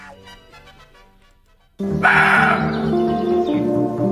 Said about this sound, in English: A deer? A roe deer. Aren't you familiar with... You didn't hear? That's why deer... Listen, if you're a deer and you're in the woods making that noise, that's why you're getting shot.